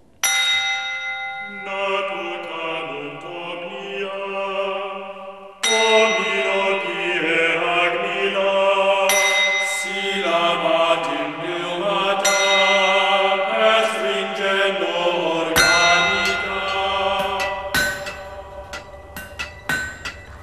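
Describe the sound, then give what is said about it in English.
Several bells ring loudly and continuously for about twenty seconds, fresh strikes overlapping the long, shimmering decay of earlier ones in an unmelodic, jangling wash of tones. “Bells. Tuneless bells.”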